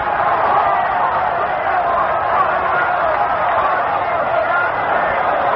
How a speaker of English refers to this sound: Listen to this crowd in the Yankee Stadium.